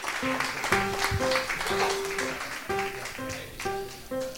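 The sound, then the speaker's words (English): An audience applauds the participating contestants of a show steadily in a dense, crackling wash of clapping while a short musical tune with bright, stepping notes plays over it. “Let's have a nice round of applause for all of our participating contestants.”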